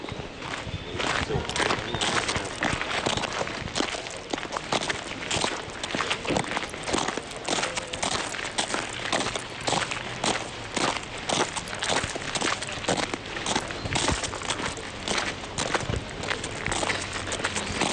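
Footsteps crunch steadily across gravel from the parking area toward the Outer Shrine (Gekū) of Ise Grand Shrine, Japan, each step a loud scrunch in an even walking rhythm that continues throughout, with no voices.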